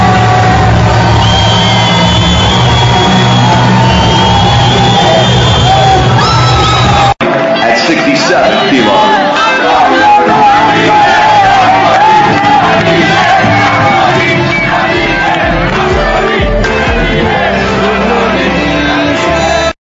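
A large crowd cheers and shouts loudly and continuously, with whoops and yells rising over a dense roar; partway through the sound cuts and resumes as an even busier din of many voices.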